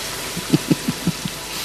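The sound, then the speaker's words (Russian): Rain hisses steadily across the whole moment, with a quick run of five or six soft, low thuds, like heavy drops striking something. “Маэстро, кажется, дождь собирается.”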